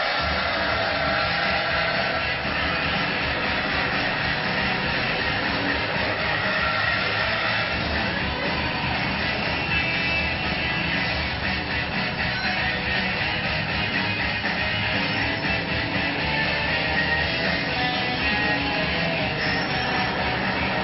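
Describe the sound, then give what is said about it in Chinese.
A race car engine is started on request and runs with a steady, loud, rumbling roar that holds at an even level for about twenty seconds, with no one speaking over it. “麻烦各位帮我启动引擎。”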